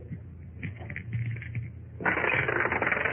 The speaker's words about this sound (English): One of the dice turns up a six while the other is clean. Yeah, look at it.